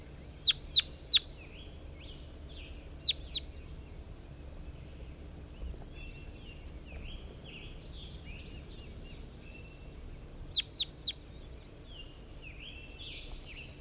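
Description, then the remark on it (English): Calls of bird 4-3 being recorded, with sharp, high, chicken-like clucks in short clusters of two or three, over softer warbling chirps and a steady low background hum. No one speaks. “Start recording bird 4-3 again.”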